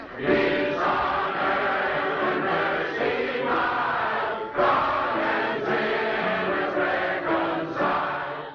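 A group of voices sings the carol "Hark the Herald Angels Sing" together with piano accompaniment in a film scene, the chorus full and steady, with long sustained notes, one brief dip halfway through, and no spoken talk.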